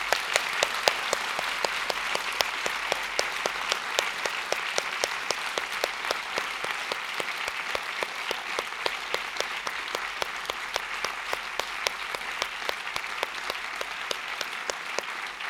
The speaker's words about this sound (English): I'd just like to say a huge thank you on behalf of the Observer and Blackwell to Susanna Clark and Neil Gaiman. A huge round of applause for them, please.